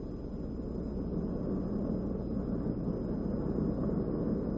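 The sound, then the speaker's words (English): A steady, low rushing roar of wind buffeting through an open car window while driving, continuous and fairly loud throughout, with no voices. “Oh, feel that breeze blowing in from that window.”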